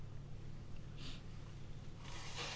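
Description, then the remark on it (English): Two short, breathy nasal blasts, a brief one followed by a longer, stronger one, as someone blows their nose at low volume with no talking. “I mean, you are blowing your nose.”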